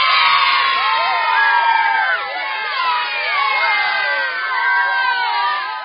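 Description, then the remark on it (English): A dense crowd of children shrieking and yelling over one another in a movie theater at a showing of Monsters University, a continuous high-pitched din of overlapping screams that stays loud throughout with no pauses. “Because remember when we talked about our theater experience for Monsters University, and I like was kind of annoyed that there were so many screaming children at.”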